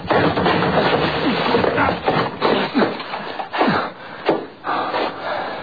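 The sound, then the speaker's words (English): A door being broken down by shoulder: a series of heavy, irregular thuds and bangs against wood, with creaking and cracking between blows, loud and continuous over a rough noisy background. “Come on, we'll break it down.”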